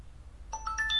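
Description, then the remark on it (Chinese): A DingDong smart speaker plays a short rising chime to confirm its network connection during setup with a phone app, after its large round top button is held to enter network mode: three or four bright, clear electronic tones stepping upward in quick succession after a moment of near silence. “好的，听见这样的一个声音，联网就已经成功了。”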